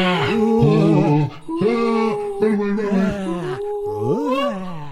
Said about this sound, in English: The troop's appreciation of the beauty of the universe was broken up when dozens of ghosts began screaming, howling, flying, and roaring straight at them.